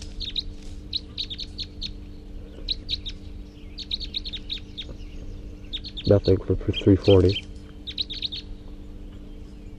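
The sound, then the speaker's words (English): Wild birds chirp and call in quick, high bursts that repeat throughout, clear, with a man briefly speaking partway through over a steady low hum; two wild birds take off and fly. “Recording those two wild birds took off and flew.”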